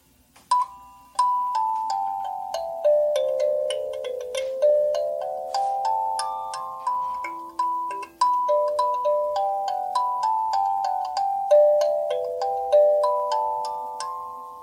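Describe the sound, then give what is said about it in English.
A slow, gentle melody of plucked kalimba notes played at slow speed, each chime ringing out and fading before the next, with overlapping tones forming a soft, music-box-like tune and no voices. “And then the kalimba also sounds great on slow speed, as well as the 7 1/2.”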